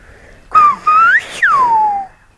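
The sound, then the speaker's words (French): A whistled Spanish word, caballo, meaning horse, in the whistled language of La Gomera, made of three loud whistle segments: a steady tone, a rising glide, then a long falling sweep, with no talking around it. “Caballo, c'est-à-dire cheval.”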